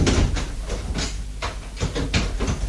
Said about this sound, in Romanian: De ce zăvorești ușa?